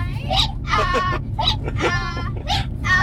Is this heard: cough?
no